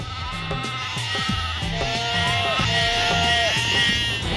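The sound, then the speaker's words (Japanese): Several sheep bleat loudly and repeatedly, their wavering cries overlapping closely in a busy, continuous chorus with no gaps. “羊、この人の喉を噛んではいけないっす。”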